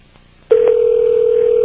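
A telephone line opens for dialing the Art Bell Listener's Hotline, a number listed in the Rocky Mountain News. After a moment of near silence, a loud, steady single-pitched tone switches on and holds unbroken to the end, with no voices.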